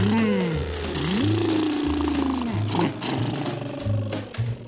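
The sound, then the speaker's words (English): A voice imitates a truck engine with a throaty, growling rumble that rises and falls in pitch, sung over a steady, pulsing low bass line. “Let's make the sound of a truck, the beautiful sound of a truck.”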